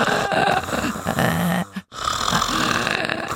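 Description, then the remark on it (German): Rough, rattling snore-like noises made by someone imitating snoring through the open mouth with the nose held shut, two loud grunting stretches broken by a brief silent pause. “Kann man schnarchen mit Nase zu?”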